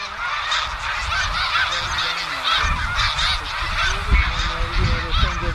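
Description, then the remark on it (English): A large flock of snow geese rising from the ground and flying north honks continuously, hundreds of overlapping calls forming a loud, dense chorus with steady wind or wingbeat rumble underneath. “It was as if the ground where the snow geese were had been covered with snow, and then someone scooped it all up and threw it in the air like confetti.”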